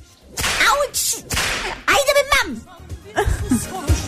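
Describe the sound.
Several sharp, loud whip cracks snap in a quick irregular series, with people talking and chuckling between the strikes.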